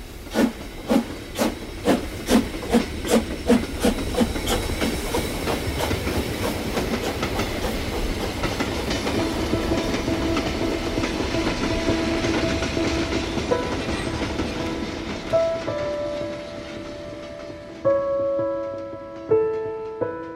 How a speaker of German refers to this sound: Der Zug fährt bis nach Hoek van Holland, von wo die Kinder aus mit dem Schiff nach England übersetzen.